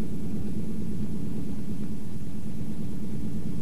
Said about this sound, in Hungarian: Az első vérplazmát szállító svájci repülőgép hamarosan le is száll Budapest repülőterén.